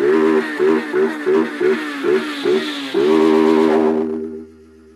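A motorcycle engine blips in a quick series of short revs, then holds a loud, sustained roar before dropping away to a low idle hum.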